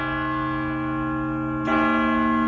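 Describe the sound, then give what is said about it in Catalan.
A clock strikes the hour at seven o'clock, ringing out with a sustained, resonant bell tone, and a second strike lands near the end, louder and fuller. No voices are heard. “Perquè estaven sonant hores amb el rellotge. Les 7.”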